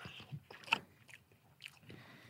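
Someone bites into a soft, wet Indian donut, followed by a few squelchy, moist chewing sounds in short irregular bursts, fairly quiet overall with no talking.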